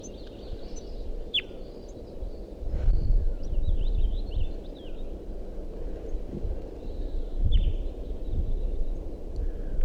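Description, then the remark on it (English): Type 2 crossbill nestlings in a nest tree give faint, thin, high-pitched begging calls at 6:09 a.m., repeated in short scattered bursts, over a steady low rumble of wind with occasional louder gusts. “And there continues to be a begging call sound from the nest tree, which I thought there was a nest in before.”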